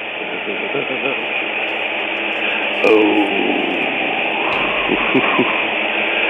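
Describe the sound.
A 1970s disco soul song plays at a steady, fairly loud level, sounding muffled and narrow like a small radio, with a singing voice over a busy, continuous backing.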